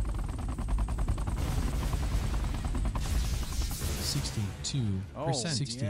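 Video game battle noise: helicopters thud overhead amid rapid bursts of gunfire, loud and dense throughout, with warbling rising-and-falling tones near the end.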